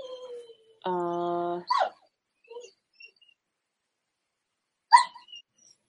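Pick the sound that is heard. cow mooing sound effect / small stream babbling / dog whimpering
dog whimpering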